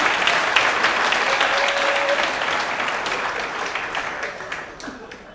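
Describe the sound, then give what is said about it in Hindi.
A large audience at a religious discourse applauds steadily at the speaker's urging, dense overlapping claps filling the whole stretch at a fairly loud, even level before tapering slightly toward the end. “ताली नहीं बजाते, ताली बजाओ, ताली बजाओ।”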